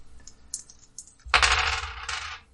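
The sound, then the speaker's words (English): Dice rattle and tumble across a hard table in a loud clatter lasting about a second, after a few light taps and clicks. No one speaks. “just checking, you gave him these dice.”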